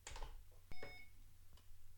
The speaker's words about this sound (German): So, dann piepst es nur einmal. Und ist auch schon gleich einsatzbereit. Hier kommt dann keine Ansage, dass man jetzt scannen kann, aber das wird man sicher dann auch gemerkt haben.